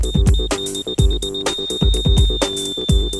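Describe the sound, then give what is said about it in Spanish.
A boatswain's whistle holds a shrill, steady high note, briefly broken a few times then sustained, over a loud backing of rhythmic, deep thumping beats. “Sin embargo, en los momentos de peligro, particularmente en las tormentas, ellos podrían atender una orden al escuchar los toques del silbato y reaccionar sin demora.”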